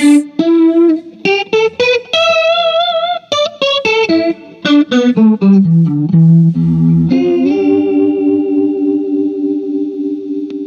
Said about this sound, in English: It's a Boss chorus pedal turned up all the way that Mason also made into True Bypass. I turn it up all the way and play this kind of fake Leslie sound. Here's with it off. And here it is.